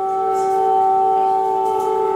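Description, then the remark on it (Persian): A loud, steady red-alert air raid warning siren in Kyiv, Ukraine, in the early hours of Friday, holds a sustained tone throughout, droning continuously without pause, with no voices present. “این صدای آژیر هشدار قرمز در کیف در ساعت اولیه بامداد جمعه است.”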